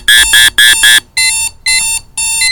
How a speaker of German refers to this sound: Thomas' Digitaluhr gab einen schrillen Piepton von sich.